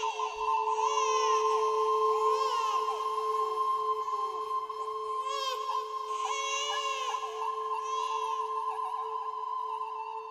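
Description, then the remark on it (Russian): A newborn baby cries in a series of loud, wavering wails that rise and fall every second or two, set over a steady, continuous tonal drone. “И когда все вернулось в прежнее состояние, обитатели дома, в первую очередь сторожа, услышали плач новорожденного и проснулись.”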